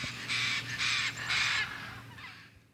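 Birds squawk loudly and harshly in the city of Caracas, three raspy calls in quick, even succession and then a fainter fourth, over a low steady urban hum with no talking.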